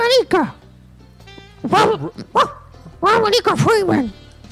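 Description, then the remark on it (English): A dog barks in a string of short, high yips and whiny barks, grouped in bursts with brief pauses between, clear, as it points in a direction. “The dog's like pointing in a direction, I think.”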